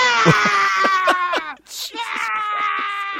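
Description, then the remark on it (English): A voice imitates goats with two long, quavering bleats separated by a brief pause. The calls are loud and nasal, with a rapid wavering tremble running through each one. “Sound of goats.”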